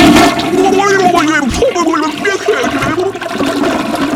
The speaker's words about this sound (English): Well, what are you going to do, man? You're going to flush me down the toilet? Okay, flush me down the toilet.